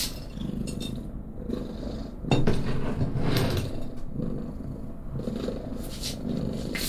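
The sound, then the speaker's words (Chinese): A big, fat cat weighing 12 jin (about 6 kg) purrs loudly and steadily, a continuous low rumbling throb with a few brief rustles and soft clicks, no talking. “而且你的呼噜声这么大。”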